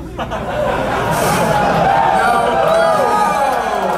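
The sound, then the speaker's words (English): A crowd cheers and laughs loudly and steadily for several seconds in response to jokes, a dense wash of overlapping voices with whoops rising above it, and no single speaker standing out. “It's a lot easier to make these jokes when we don't hear the cheering.”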